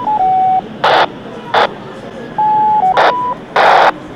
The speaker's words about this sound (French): J'entends quelque chose, mais complètement décalé, hein, très faible et complètement décalé en fréquence.